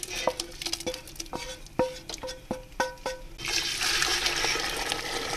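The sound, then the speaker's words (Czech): The rest of the broth, 2.5 litres, is poured into a large pot for cabbage soup: a few metallic clinks and taps at first, then a steady, rushing splash of liquid that fills the last couple of seconds, fairly loud. “Zalili jsme zbytkem toho vývaru.”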